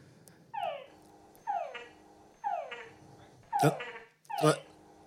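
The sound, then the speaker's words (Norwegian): A frog calls five times at a steady pace of about one per second, each a descending whine; the last two calls end with louder, abrupt croaking chucks. No voices. “Ja, så de legger på denne kvekkingen.”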